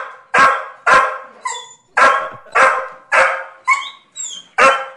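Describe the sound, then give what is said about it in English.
Harley the dog barks loudly and repeatedly at a steady pace around 3 o'clock in the afternoon, wanting to be taken for a ride in the car, slipping short, high-pitched, sad whining squeaks in between the sharp barks, with no one talking. “Love that sad squeak that he mixes in.”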